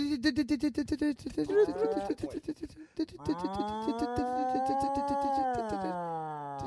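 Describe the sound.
A man imitates a cow, first with choppy, stuttering lowing, then one long, loud, drawn-out moo that holds steady for several seconds.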